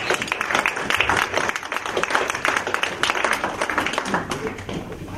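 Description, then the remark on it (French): An audience applauds in acclamation of Jesus, steadily for about five seconds, a dense, loud patter of many hands clapping, with voices mixed into the noise. “Est-ce que quelqu'un peut donner une main d'acclamation à Jésus?”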